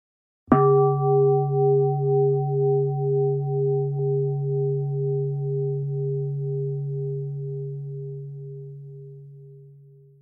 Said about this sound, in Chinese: 声音有自己的音调、音高，就像我现在的声音。即使只是一个铃声，它也有同样的本质。